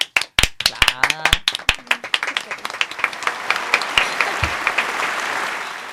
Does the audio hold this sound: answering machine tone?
no